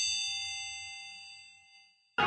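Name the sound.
bell ringing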